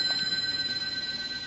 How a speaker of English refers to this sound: Pick it up and find out. It sounds like a phone. Well, what can you lose? Pick it up.